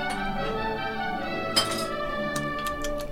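Glass IPA beer bottles clink together in a toast: one sharp knock followed by a few quicker, lighter taps, all ringing over a steady background with no talking.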